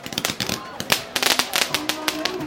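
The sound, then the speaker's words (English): Rapid, irregular crackling bangs of pink, white and blue fireworks and firecrackers set off by a crowd of young people celebrating New Year in the streets along the Ming Dynasty city walls of Xi'an, China, popping in quick succession outdoors, with a murmur of crowd voices underneath. “The crowd set off pink, white, and blue fireworks.”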